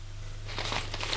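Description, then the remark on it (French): A paper with a hospital's name written on it is picked up and crinkles, a soft rustle that starts partway through and turns into a busy, crackly rustling over a low steady hum. “Prend le papier et vite il va à son bureau.”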